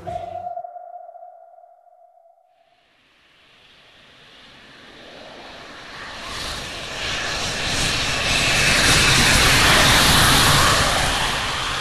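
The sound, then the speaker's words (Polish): A brief steady electronic tone fades out, then an airplane engine roar builds gradually, swelling into a loud, broad, rushing drone that dominates the end. No one speaks. “Zdążyliśmy na samolot.”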